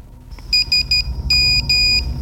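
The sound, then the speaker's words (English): A phone's text message alert: a crisp, high electronic tone beeping out "SMS" in Morse code, three quick pips followed by two longer tones, loud over a low background rumble. “That means SMS in Morse code.”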